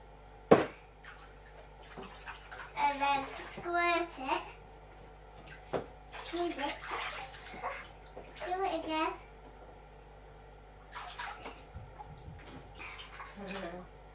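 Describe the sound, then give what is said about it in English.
Short bursts of squirting water from a bath toy, turned upside down and squeezed, splash in an echoey bathtub, a few scattered spurts between high-pitched child chatter, moderately loud. “Turn it, you have to do it upside down, squirt it. What? Turn it upside down. Oh, look. I've had water coming out of it then.”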